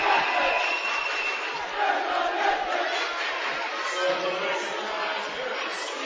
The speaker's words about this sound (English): You can hear the echoes throughout the gym. It's a full house for both of these storied teams.